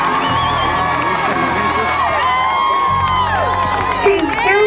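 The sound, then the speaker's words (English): A large crowd in the street outside a courthouse shouts, screams and cheers continuously after a guilty murder verdict, many overlapping voices rising and falling, with scattered whoops and screams above a dense, steady roar. “And when he read guilty, you could hear the shouts and the screaming down up into the courtroom.”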